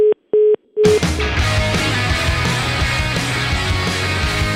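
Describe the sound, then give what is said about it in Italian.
A phone line's hang-up tone, after a caller slams down the phone on the radio show La Zanzara, sounds as three short, even beeps in quick succession, loud and clear, before being cut off by a dense burst of loud music-like sound. “Uno si traveste con la divisa da nazista anche solo per carnevale, vabbè, sbatte giù il telefono.”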